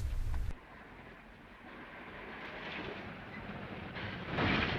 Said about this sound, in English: soaking wet, has walked back to the road just as a car comes along.